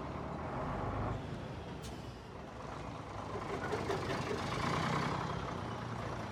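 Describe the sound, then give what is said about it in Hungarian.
A heavy truck rumbles close by as it turns beside an archaeological excavation in the courtyard of the Franciscan Gymnasium in Esztergom, Hungary, where soil is being hauled away; its engine a loud, steady roar with a brief hiss of air brakes near the start. “Körülöttünk nem csak a feltárás folyik, hanem a földnek az elhordása is, éppen most fordul mellettünk egy teherautó.”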